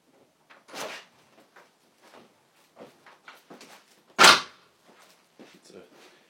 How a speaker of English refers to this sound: very smooth closing door.